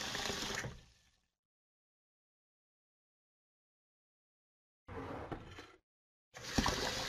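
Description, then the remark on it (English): Water pours into a container in three short, splashy bursts, the first fading out, then a pause before two more pours. Fairly loud, with no voices. “It can fill a square pan.”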